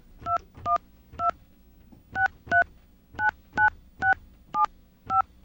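telephone keypad dialing tones

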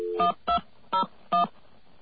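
telephone number being dialed

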